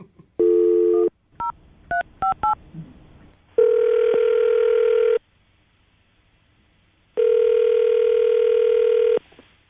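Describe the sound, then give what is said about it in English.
A short dial tone and a quick run of keypad beeps, followed by two long, steady ringback tones separated by a few seconds of silence, loud as on a phone line; an outgoing call placed by the Brooke and Jubal in the Morning radio show. “see if we can get her on the phone, okay?”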